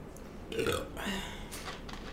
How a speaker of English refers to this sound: No, the burp didn't taste green. What did the burp taste like? Cheez-Its.